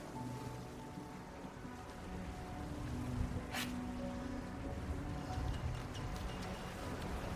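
A steady low engine drone with faint tonal hum runs beneath a broad wash of water noise, suggesting a boat motoring across open water, with a brief splash or hiss partway through.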